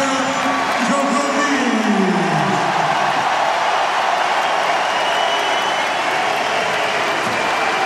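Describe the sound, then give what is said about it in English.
A large tennis stadium crowd at Roland Garros roars with sustained applause and cheering as Novak Djokovic wins a five-set match to reach the quarterfinals, a dense wash of clapping and shouting voices, with rising whoops early on, loud and continuous throughout. “And he's blowing kisses to the crowd, clenching his fists.”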